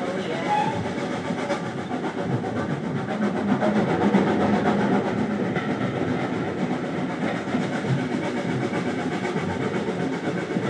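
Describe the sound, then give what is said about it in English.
A train rolls steadily along the track, its low, constant rumble mixed with a faint rhythmic clatter of wheels that holds at an even loudness throughout. “Murder on the Seven Valley Railway.”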